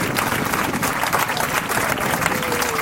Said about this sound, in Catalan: Un fort aplaudiment, moltes gràcies per haver acceptat aquesta comanda.